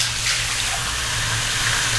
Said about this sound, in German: spüle das nochmal mit warmem Wasser so ein bisschen nach.